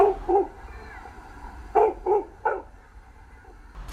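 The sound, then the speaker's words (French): A dog in an apartment in Brazil barks five times in two quick bursts, a pair and then a rapid triplet, sharp, at the building management's representative, against a quiet background with a low hum. “Il aboie parce qu'il ne l'aime pas.”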